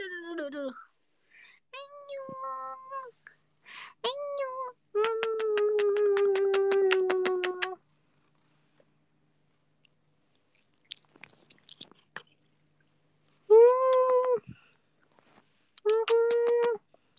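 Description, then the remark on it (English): A cat meows repeatedly: a few short calls, then a long, drawn-out yowl, a pause filled with faint clicking, and two more loud meows near the end. The cat has a bald spot after surgery. “We have a special guest, new appearance, first ever. Remember my cat who's having surgery last time.”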